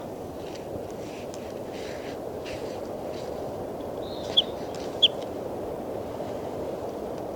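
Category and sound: bird, bird call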